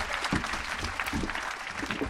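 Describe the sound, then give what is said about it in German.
Steady applause from an audience at a poetry stage event as performers change over, a dense, even patter of many hands clapping at moderate loudness for the whole stretch, with no voices standing out. “Und wir wechseln jetzt einen Applaus, bitte noch ein bisschen lauter, für den nächsten auf der Bühne”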